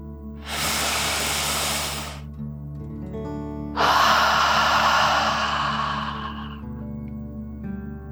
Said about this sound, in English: Breathe in through your nose, filling up your lungs, and then out through your mouth, imagining you are breathing fire, like a dragon. Okay, deep breath, in and out.